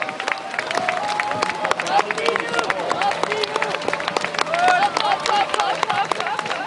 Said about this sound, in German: Unter einem Applaus von dutzenden Schaulustigen, die das Aareufer gesäumt haben.